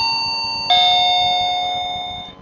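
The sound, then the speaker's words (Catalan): A doorbell chime rings out alone: one bright tone already sounding, then a second, louder strike that hangs in a steady ringing hum and slowly fades away. “Després d'un minut, en Daram va picar la porta.”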